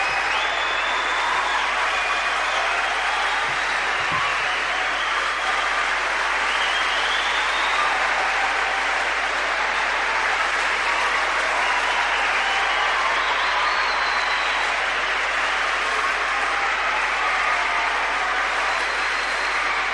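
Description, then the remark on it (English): Sustained, loud applause from a large crowd standing up in a town hall as Nelson Mandela is expected to arrive fills the whole stretch, a dense steady wash of clapping with occasional faint cheers rising above it, no pauses or speech. “you can hear the applause. People are standing up.”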